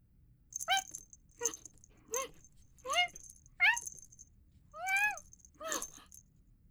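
A Scottish Fold cat named Sco, about one year old, gives seven short meows and chirps in an irregular series, some rising and falling in pitch, with no talking and a faint low hum in the background.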